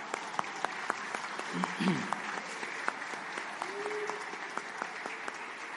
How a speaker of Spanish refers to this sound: Y démosle un aplauso a nuestras madres en esta mañana.